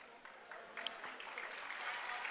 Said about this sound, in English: Crowd's going to give him a nice hand.